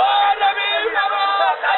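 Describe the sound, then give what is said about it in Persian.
Several raised voices shout and brawl over one another in a loud, unbroken commotion, heard on a live radio broadcast through a reporter's phone line. The sound is thin and harsh and barely pauses for about two seconds. “ضمن عذرخواهی بابت سر و صدایی که پخش شد در خدمت شما هستم.”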